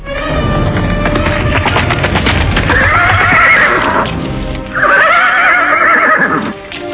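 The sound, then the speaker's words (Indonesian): A horse whinnies loudly twice in long, wavering calls while hooves clatter in a quick, uneven rhythm underneath from the start, as a rider hurriedly rides the horse into a courtyard after sunset. “Sugatra datang terburu-buru menunggangi kudanya memasuki halaman”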